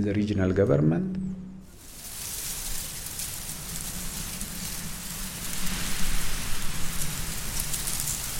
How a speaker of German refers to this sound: Was wie Regen klingt, sind die Blätter von Maispflanzen, durch die ein strammer Wind geht. In der trockenen Ebene von Afar brechen nur wenige Pflanzen den Wind.